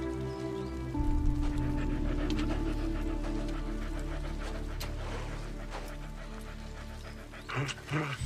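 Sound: dog panting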